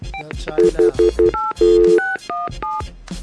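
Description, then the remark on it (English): A rapid series of electronic keypad tones as a phone number is dialed, several quick beeps in a row followed by a few longer ones, clear with no one talking. “Hey, you was dialing it like you do it.”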